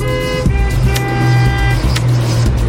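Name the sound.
traffic noise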